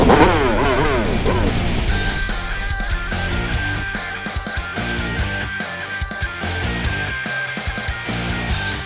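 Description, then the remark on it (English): Hover bike engines rev up loudly with a rising, whining sweep, then settle into a dense, sustained roar with a pulsing, rhythmic churn, as Ravagers on hover bikes give chase across desert dunes. No one speaks. “But freedom wasn't coming easy, not with the Ravagers hot on their trail, Hoover bikes revving and blasters ready to fire.”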